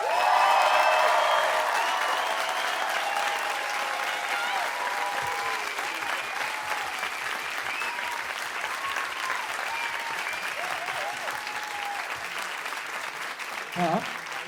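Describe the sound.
Sustained audience applause for a song just performed, a dense wash of clapping that stays steady and fairly loud for the whole stretch, with faint cheers and voices mixed in.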